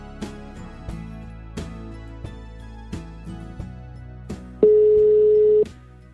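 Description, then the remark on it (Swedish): A phone call going out: a run of evenly spaced tonal beeps, then one steady, fairly loud ringback tone holding for about a second before cutting off. No one speaks. “Jag måste ringa upp och fråga om han menar allvar.”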